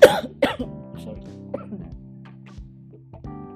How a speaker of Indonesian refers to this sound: Sorry ya batuk.